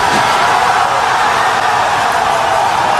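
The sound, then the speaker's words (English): A crowd cheers and roars continuously at the launch of a SpaceX Falcon Heavy rocket on its test flight. It is a loud, dense wash of many voices with no pauses and no single voice standing out. “If you can hear me over the cheering, Falcon Heavy heading to space on our test flight.”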